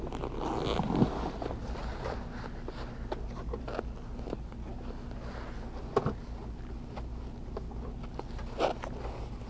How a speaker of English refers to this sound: Pants. Yeah, he's got his pants on. Zipper?